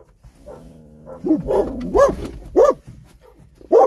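A dog barks several times outdoors, a few sharp yips and barks spaced out over a few seconds after a brief whine, moderately loud with no talking.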